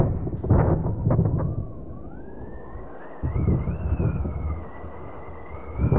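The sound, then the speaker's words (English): Deep rumbling thunder bursts roll in and out over a steady whooshing wind, with a thin rising whistle drifting above: a theatrical storm sound effect cued during a stage rehearsal, swelling, easing, then booming again near the end. “Cue the storm effects.”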